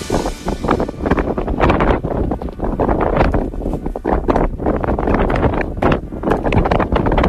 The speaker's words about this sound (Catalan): Identifiques? El vent en algun lloc, en algun lloc de Catalunya. Mira, 3.143 metres. Això és el punt més alt del país, és el de la Pica d'Estats. Així sona la Pica d'Estats, per tant, so real des de dalt de la Pica d'Estats.